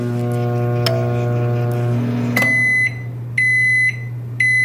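A microwave oven heating Shin Ramen noodles in a dish of water for 4 minutes hums steadily with a couple of soft clicks, then sounds three long, evenly spaced electronic beeps, loud, with no one talking.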